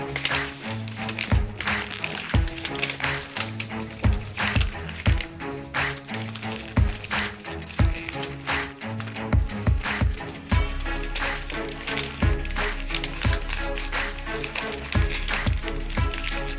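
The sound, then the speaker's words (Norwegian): Sheets of paper being folded into paper airplanes for a paper airplane throwing contest, with crisp creasing taps and rustles scattered throughout, over steady background music. Nobody speaks. “Nemlig papirflykasting. Foran dere står et ark. Sett i gang.”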